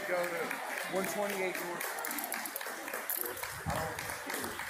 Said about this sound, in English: And people are clapping. People at the Pride Parade are clapping because the cop is handcuffing this Christian protester.